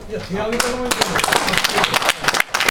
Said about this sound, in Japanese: 採決に反対の方拍手ください。